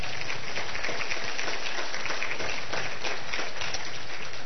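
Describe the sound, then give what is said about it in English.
A crowd applauds steadily for the directors standing up in the room, many hands clapping in a dense, continuous wash of sound that holds at an even level throughout, with no voices standing out. “Well, give them a round of applause as well.”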